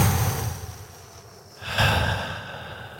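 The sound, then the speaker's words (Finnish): A slow, deep breath drawn in and then let out in a long, airy exhale as a short breathing exercise, with no talking. “Mä otan tämmönen pikku hengitysharjoitus tähän näin.”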